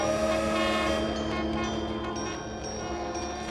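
A passing freight train fills the scene with a loud, steady rumble and clanking, layered with sustained horn-like tones that slowly fade slightly over a few seconds. No one speaks.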